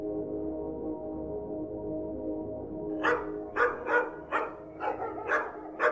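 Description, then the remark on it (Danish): Hunting dogs, sent out by duck hunters to search the terrain on the opening of the duck hunt in Vorupøre, West Jutland, on 1 September 1985, bark in a quick, uneven series of about eight sharp yaps, following a few seconds of steady low droning background with no voices. “I Vorupøre i Vestjylland er andejagten gået ind, og entusiastiske jægere sender deres hunde ud for at sondere terrænet.”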